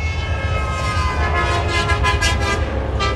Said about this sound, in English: Last week's rally attracted more than 100 protesters, and dozens of drivers showed support by gesturing out their car windows or blowing their horns.